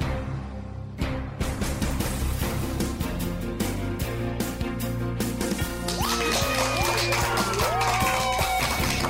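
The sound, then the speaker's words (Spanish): A steady burst of clapping from a crowd, dense and loud throughout, with cheers and rising whoops breaking through in the second half over a sustained musical backing. “Y con esa energía positiva y esos aplausos damos inicio, como cada día, a este episodio ya número 29 de la nueva temporada del programa Te Invito un Café.”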